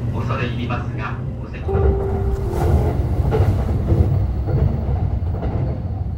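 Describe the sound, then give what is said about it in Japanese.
A train rolls steadily along the rails toward Iwaki, Fukushima Prefecture, Japan, with a continuous low rumble and rhythmic clickety-clack, heard from inside a carriage, with a brief tonal whine partway through. “新型コロナウイルスの感染が拡大しているさなかではあるんですけれども、ずっとご無沙汰をしていたこともあり、震災から間もなく10年を迎えるという自分のふるさとの状況を、今どうなっているのかを確かめようと列車に乗ったというところです。”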